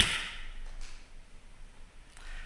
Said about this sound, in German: So, ihr kennt das, bevor die Predigt kommt, muss ich einmal in die Hand klatschen, um Bild und Ton zu synchronisieren.